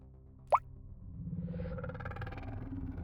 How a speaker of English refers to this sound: In the darkness of the woods, I thumb open the seal and pour a single drop onto the monkey's lapel badge.